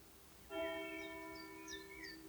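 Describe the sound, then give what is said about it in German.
A church bell strikes once with a loud, rich metallic tone that rings on and slowly fades. Faint high chirps come through near the end, and no one speaks. “Ich weiß nicht, ob ihr das hören könnt, aber zum Wort zum Sonntag schlägt hier die Kirchenglocke.”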